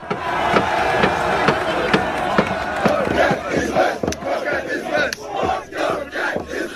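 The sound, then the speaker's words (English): At the Lincoln Memorial, a loud crowd of high school students wearing Make America Great Again hats shouts and chants together over a steady hand drum played by a Native American protester, its beats falling evenly about twice a second, with the noisy voices sustained throughout. “Yeah, for some, the video shows a group of white high school students wearing Make America Great Again hats mocking a Native American protester who's playing a drum.”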